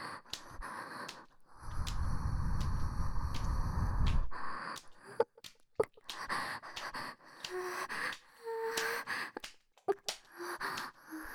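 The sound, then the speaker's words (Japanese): A woman's long breathy exhale rushes right up against the microphone into the ear at very close range, followed by softer intermittent breaths and small mouth clicks, quiet and intimate. “ママの吐息、至近距離で感じて。”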